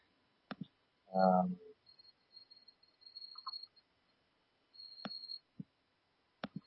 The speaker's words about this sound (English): Sounds like you are with a chorus of crickets tonight. Yeah. Yes, we have a chorus. Many. I hear it, yeah.